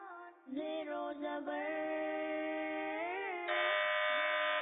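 A quiz contestant's buzzer sounds as a loud, buzzy electronic tone held for about four seconds, its pitch stepping up a few times before it cuts off. No one speaks.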